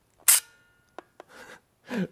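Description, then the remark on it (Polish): An early autofocus film camera's shutter snaps loudly, followed by two small mechanical clicks and two short whirring bursts of the film advancing as the held shutter release is let go, with no talking. “Jest taki trik, żeby dało się tego używać jakoś tak dyskretnie, że można zrobić zdjęcie i przytrzymać spust migawki, dopiero jak się odejdzie gdzieś kawałek dalej, puścić spust migawki, nawinie się film i wyłączam go.”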